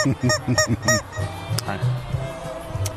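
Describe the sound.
A rubber chicken squawks five times in quick succession, loud and close, with honking nasal squeals, followed by people talking over a low background murmur.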